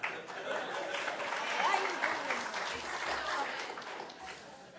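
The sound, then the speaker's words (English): An audience claps steadily for about five seconds, a dense, even wash of many hands with a faint murmur of crowd voices mixed in, clapping for a man who was called up to try to curl a bag weighing about 20 pounds. “I know you guys were clapping, but he definitely didn't curl it.”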